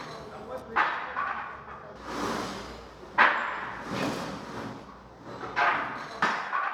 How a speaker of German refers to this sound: Entschuldigung, die Baustelle.